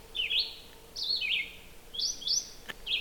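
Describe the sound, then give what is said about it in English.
A red-eyed vireo sings short, slurred whistled phrases, separated by brief pauses, in a steady, repetitive rhythm, on a quiet July morning before sunrise. Quiet background and no talking. “That's a red-eyed vireo, one of our most common birds, and actually one of the most persistent of singers.”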